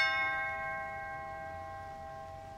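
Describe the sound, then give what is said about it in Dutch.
A doorbell at a closed door rings once, a clear metallic chime with bright ringing overtones that slowly fade out over a couple of seconds. Moderately loud, with no voices. “De deur is dicht. Bel aan. Toe, de bel.”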